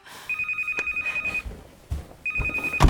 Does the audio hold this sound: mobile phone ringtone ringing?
yes